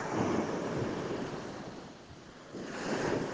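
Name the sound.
ocean waves and surf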